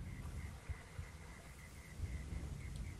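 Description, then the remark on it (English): A low, steady humming rumble, a sound effect representing a scent trail, drones without a break, carrying a faint, evenly repeating high-pitched chirp above it and a soft hiss throughout. No one speaks. “It's represented by a low humming sound.”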